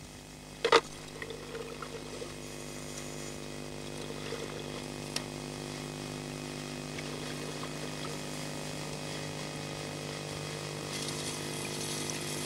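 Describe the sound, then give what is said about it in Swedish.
A motorized pump drones steadily and continuously, a low mechanical hum with a faint watery rush, interrupted once near the start by a brief sharp knock, as it pumps mud and silt out of the water to improve visibility for divers searching the bottom. “För att finkamma botten i hopp om att hitta någonting ovanligt måste all onödig lera och dy i vattnet hela tiden pumpas undan så att sikten förbättras för dykarna.”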